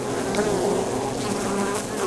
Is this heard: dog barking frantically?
no